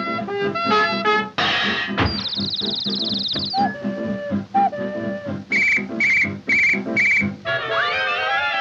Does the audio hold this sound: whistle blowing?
yes